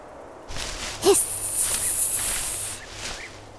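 A snake's loud, steady hiss runs for about a second and a half, opening with a brief rising squeak, with soft rustling before and after.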